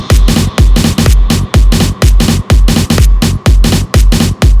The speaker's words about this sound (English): Military drums.